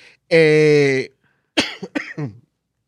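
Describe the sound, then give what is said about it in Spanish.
A long, strained voiced groan is followed by a quick run of three or four harsh coughs in an uneven burst, like a short coughing fit. “déjame ver si no me da un ataque de tos y nos vamos y puedo terminar aquí.”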